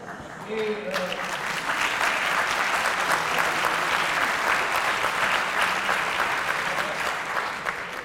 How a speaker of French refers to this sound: Je voulais simplement marquer une chose et vous dire que les applaudissements que j'ai entendus, moi j'ai fait tous les congrès de la FF, bien entendu, les applaudissements que j'ai entendus étaient plus forts, plus vigoureux, plus longs.